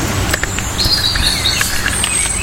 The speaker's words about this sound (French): Là, on a les deux. On a le rouge-gorge au-dessus de nous et le merle un petit peu plus loin. Il doit y en avoir un autre. Là. Ces deux oiseaux qui sont bien présents en Normandie.